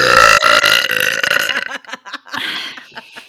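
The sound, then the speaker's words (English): A long, loud, croaking burp rumbles for over a second, then breaks into sputtering bursts and a softer breathy trailing sound, made during a burping drinking game. “By the way, I don't know if I'm going to keep this in or not, but the drinking game is burping.”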